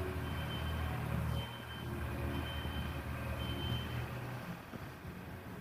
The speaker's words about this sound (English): Here, one of those genie lifts. It's currently rolling very slowly, which is what the beeping sound is.